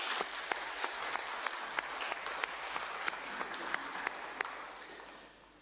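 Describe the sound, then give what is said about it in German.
A church audience applauds steadily for several seconds to welcome a couple, a dense wash of many hands with a few sharper individual claps standing out, then tapering off slightly at the end. “An der Stelle können wir mal klatschen, finde ich.”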